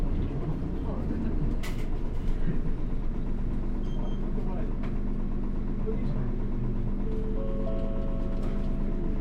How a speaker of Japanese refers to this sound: 本日も東急バスをご利用いただきます。ありがとうございます。このバスは、大阪09系と大森駅、大田文化の森経由、池の決心でございます。途中、お降りのお客様は、電車のブザーでお願いします。